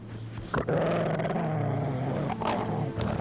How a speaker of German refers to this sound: Sobald sich ein Matrose nähert, wird er wütend, bellt und fletscht die Zähne.